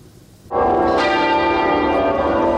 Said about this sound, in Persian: روز جمعه صدای ناقوس کلیساها و شلیک توپ‌ها در سراسر بریتانیا از پایان 70 سال سلطنت ملکه الیزابت دوم خبر دادند.